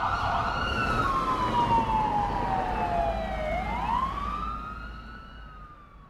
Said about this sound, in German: Doch endlich, sie hört aus der Ferne das Heulen der Polizeisirenen. Der Wagen fährt schnell in Richtung Hauptbahnhof.